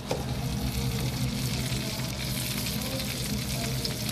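Tofu cubes fry in a hot wok to brown them, giving a steady, dense sizzle with fine crackling throughout, fairly loud, with no voices.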